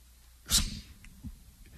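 A single sharp sneeze bursts out suddenly, fairly loud, then fades into quiet with a faint breathy sound shortly after.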